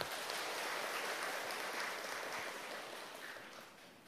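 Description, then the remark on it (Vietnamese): A large crowd applauds steadily in praise of 673 people becoming Buddhist disciples at a ceremony of taking refuge in the Three Jewels, a dense wash of many hands clapping at once that holds for about four seconds and then slowly tapers off. No one speaks over it. “Hãy dâng cao một tràng vỗ tay để tán dương.”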